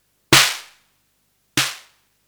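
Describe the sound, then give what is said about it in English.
Two hits of a modified drum machine snare with its noise control turned up to about 3 o'clock, about a second and a quarter apart. Each is a sharp, bright crack with a hissy tail and a short low tonal body, no voices. “So this is a whole different snare sound we've got going here.”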